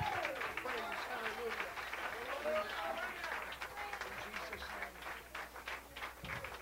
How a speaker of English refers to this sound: Could you put your Bibles down and clap your hands one more time to the Lord? Somebody, praise.